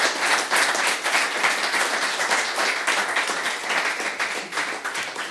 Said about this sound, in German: Vielen Dank. Für einen großen Applaus